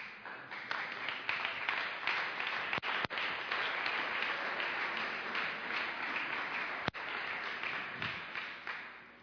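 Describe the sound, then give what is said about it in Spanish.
An audience applauds steadily for several seconds, a dense, sustained wash of many hands clapping at a fairly even loudness, with no one speaking over it. “Y es que oigo este aplauso en relación a lo que acabo de decir y diera la impresión de que un tercio de la población no entendió lo que quise decir.”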